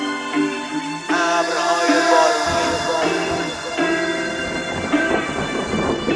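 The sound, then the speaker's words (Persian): Heavy rain pours steadily while thunder rumbles and rolls through it, with sustained musical tones layered beneath the downpour; no one speaks. “وقتی آسمون بغزش ترکید و با صدای فریادش شد اشک شاری، من دعوت بودم در اون مهمانی، در ضیافت بزرگ خیابون با هنرنمای ابرهای بارونی.”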